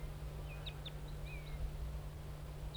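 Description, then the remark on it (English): A wild crossbill perched on a spruce across the road gives several short, high flight calls, thin chirps and a brief whistled slur, scattered irregularly over a steady low hum, with decoys responding. The calls are faint and there is no talking. “Pointing at the wild bird. He's perched on a spruce across the road now.”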